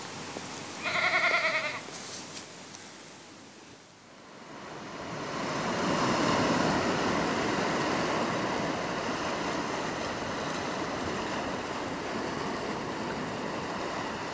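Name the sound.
goats bleating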